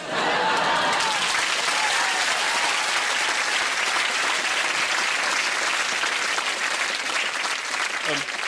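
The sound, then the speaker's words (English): Sustained applause from an audience, a dense, steady wash of many hands clapping at even loudness for several seconds, with faint crowd murmur mixed in. “Thanks for clapping, because I'll be honest, I didn't know what the hell he was talking about.”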